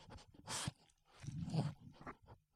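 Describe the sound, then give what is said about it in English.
A dog sniffs and pants right at the microphone: a sharp, hissy sniff, then a longer rough, breathy huff and a few quieter snuffles, with no one talking. “Sniffed the mic. He's wondering what I had for lunch.”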